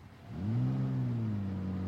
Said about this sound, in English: He just drove off.